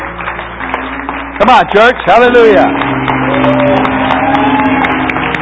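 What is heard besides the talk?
church audience applauding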